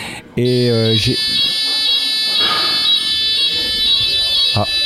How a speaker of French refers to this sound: on a eu un petit imprévu avec un déclenchement d'une alerte incendie